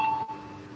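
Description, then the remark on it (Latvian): A parliament's electronic voting bell, rung before a vote on a proposal, sounds a short, steady tone at a single mid-high pitch for about a quarter second, with a brief faint repeat, over a low background hum. “Lūdzu, zvanu.”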